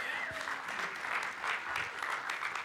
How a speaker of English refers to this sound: And in May, I'll let you clap again.